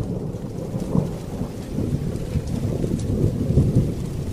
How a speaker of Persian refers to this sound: در دل تاریکی شب باران تند و بی امانی می بارید. کوها و دره های دور و نزدیک کم کم در دل مه و باران از نظر محو می شدن.